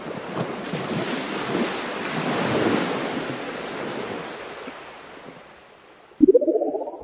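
Ocean waves break on a shore in a steady, rushing wash of surf that swells and slowly fades, before a short tonal sound cuts in near the end.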